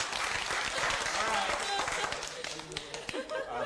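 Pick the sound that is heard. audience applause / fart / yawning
audience applause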